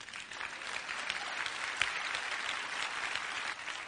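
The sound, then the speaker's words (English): An audience breaks into steady applause, many hands clapping in a dense, continuous patter that holds at an even level for several seconds with no voices over it. “Yes, clap, oh.”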